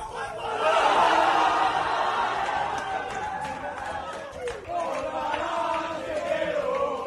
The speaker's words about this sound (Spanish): Al que ves a escuchar gritar en el vestuario …, sus jugadores le secundan